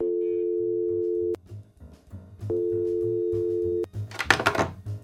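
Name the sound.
telephone ringing tone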